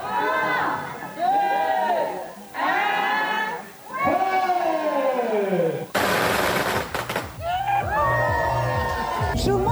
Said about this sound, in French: Ils étaient 350 convives à attendre avec impatience minuit, heure à laquelle 10 000 pétards ont éclaté pour chasser le mauvais esprit.